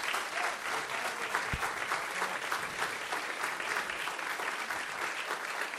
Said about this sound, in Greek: Το χειροκρότημά σας παρακαλώ για την Ορχήστρα Σύγχρονης Μουσικής της ΕΡΤ.